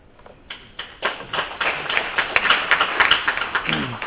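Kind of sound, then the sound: crowd, audience applause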